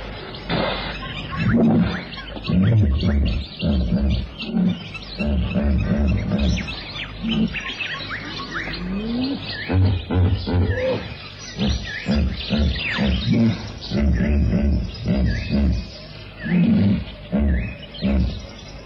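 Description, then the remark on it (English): A hippopotamus in the water snorts and grunts in a loud, deep series of rhythmic, honking bursts that rise and fall for the whole stretch, with faint bird chirps scattered in the background. “And in the water, rising indignantly to survey the scene with two enormous saucer-like eyes, the snorting hippo.”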